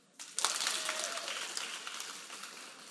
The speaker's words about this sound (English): You follow me so far? Everybody give me one raucous clap.